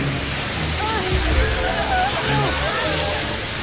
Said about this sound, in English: Get out of the way of the jet spray!